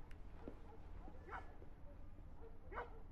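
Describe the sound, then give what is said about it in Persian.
A female dog named Sax gives a couple of short, sharp barks spaced about a second and a half apart, fairly quiet against a low background hum, with a softer yip just before. “حالا بذار سگشو بکن.”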